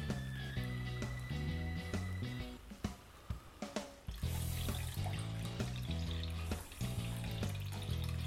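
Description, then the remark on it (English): Almond milk pours and splashes steadily through a four-layer straining cloth for several seconds, a soft continuous trickle partly masked by louder background music with a steady beat. Nobody speaks. “So it's just a simple matter of pouring our almond milk onto the cloth.”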